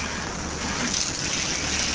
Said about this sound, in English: The sound of hoses were ever present this morning.